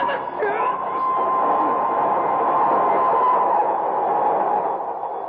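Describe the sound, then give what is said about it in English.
A train rolls in along the tracks with a loud, steady roar and a high metallic whine running throughout, with faint crowd murmur underneath. “I can hear a train approaching”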